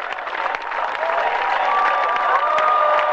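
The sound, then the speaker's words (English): Young people welcome Pope Benedict XVI on his arrival in Cologne, Germany, chanting his name in Italian and giving a soccer cheer; a dense wash of clapping and voices with a few higher shouts, sustained and fairly loud. “Security concerns prevented the presence of large crowds at the airport, but Benedict was given a rousing welcome with young people chanting his name in Italian and giving him a soccer cheer.”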